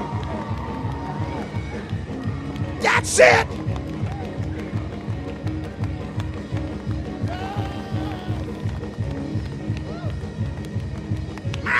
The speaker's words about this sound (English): I want you right now to obey your feet and start shouting, start leaping.